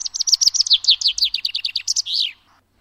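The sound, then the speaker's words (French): A chaffinch sings one clear phrase alone: a quick run of bright, descending trilled notes that speeds up and ends in a sharp flourish, then silence. “Et aujourd'hui, que le pinson prenne garde, nous allons parler du chat.”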